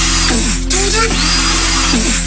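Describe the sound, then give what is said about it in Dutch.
A man uses a real electric drill to imitate dubstep beats. It whines loudly and continuously, its pitch bending and wobbling in rhythmic swoops like a dubstep wobble bass, with a steady low hum underneath and no talking. “Dit is een gast die dubstep beats aan het nadoen is met een echte boormachine.”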